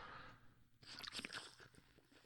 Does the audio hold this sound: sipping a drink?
yes